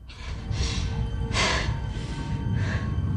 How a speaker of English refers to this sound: Elena watches her gulp it down.